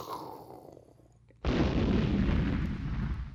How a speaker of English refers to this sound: Do we have an explosion?